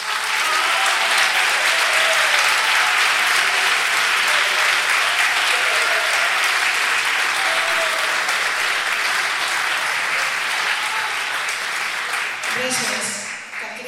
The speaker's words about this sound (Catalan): tinc l'honor de capitanejar aquest equip de soldats que fan que traguem les carrosses fantàstiques que traiem al carrer, o sigui que també per ells un gran aplaudiment.